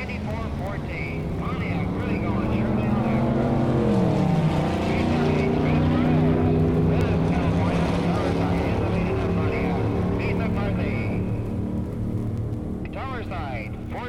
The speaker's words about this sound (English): I see the stands are filling with people. The cars are about to start. So set yourself back and prepare once again to listen to the big sounds of the drags.